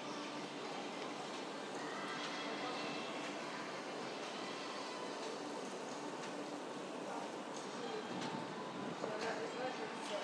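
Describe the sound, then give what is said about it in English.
Steady, echoing railway platform ambience at a continental platform with Eurostar trains: a continuous low rumble and hiss of idling trains fill the space, with indistinct voices murmuring in the background throughout. “The Eurostar trains seem huge on these platforms, don't they?”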